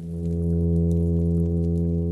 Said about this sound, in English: That's from the plainfin midshipman fish. They have an air-filled bladder known as a swim bladder that most fishes use to change their position in the water column, but many fish have secondarily adapted this organ for sound production.